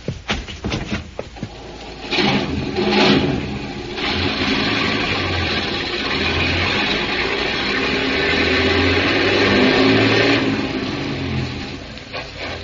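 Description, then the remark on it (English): Heavy truck engines rev and roar steadily for several seconds as the trucks are driven down a bank into the water, a rough, loud rumble with a low growl beneath, fading slightly near the end. Nobody speaks. “Grab those trucks and drive them right into the water.”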